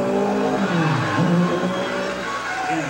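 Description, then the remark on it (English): An old Buick V6 engine revs steadily and loudly, its throaty drone dipping in pitch near the middle before climbing again, with no voices over it. “I had an old Buick V6 out in the garage.”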